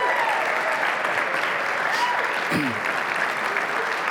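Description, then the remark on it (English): Steady, sustained applause from a church audience honoring a group of kids, a dense, even wash of clapping that holds at a constant loud level throughout, with a faint voice briefly audible underneath. “So let's all go ahead and give them a round of applause again.”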